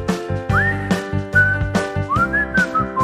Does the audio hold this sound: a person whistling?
yes